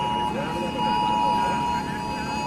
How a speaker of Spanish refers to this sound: Han sido tanto en las zonas afectadas, en el Barranco del Pollo, como en la Plaza de la Virgen de Valencia, donde también han sonado desde los móviles de los asistentes el sonido de la alarma que llegó tarde el día de la riada.